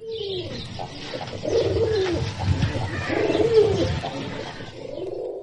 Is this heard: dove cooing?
yes